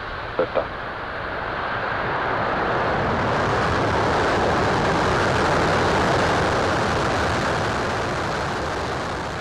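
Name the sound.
rocket launch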